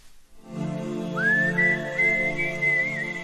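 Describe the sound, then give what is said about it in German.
A clear, sustained whistled melody glides and steps between notes over soft, steady instrumental backing, the intro of the biggest pop hit of 1991, released in November 1990. No one speaks. “Wir fangen mit der schönsten Pfeiferei des Jahres 1991 an.”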